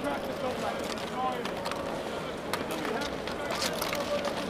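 Crackly crunching as feet tread through piles of discarded plastic cups on the square outside the Sportpaleis after a concert, irregular sharp crinkles over a steady, noisy background murmur.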